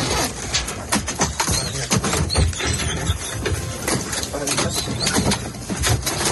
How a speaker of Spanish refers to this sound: ¿Lo están haciendo? Con perros como este que escuchas, con Fara,